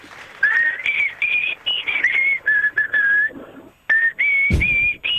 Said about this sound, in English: You've got a whistling song, don't you, sir? Yes, the Tony Barber special, Green Sleeves.